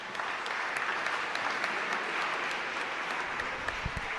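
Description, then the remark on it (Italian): Steady audience applause, a dense wash of many hands clapping at an even, moderate loudness throughout, with no voices standing out. “Applauso per Lissi in questo momento.”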